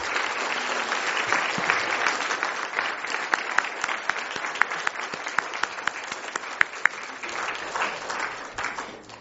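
A room full of people claps steadily and continuously for several seconds, a dense wash of overlapping handclaps with a few sharper individual claps standing out near the front.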